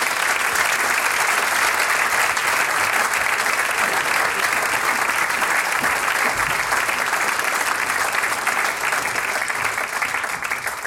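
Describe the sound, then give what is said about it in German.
Sustained audience applause fills the whole stretch, a dense, steady clatter of many hands clapping at even loudness from start to finish, as a children's choir is called back onto the stage. “So, jetzt bitten wir wieder den Kinderchor auf die Bühne und ihr kriegt einen Applaus.”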